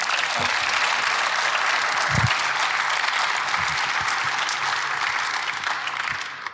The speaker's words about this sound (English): Amen. Give a little round of applause.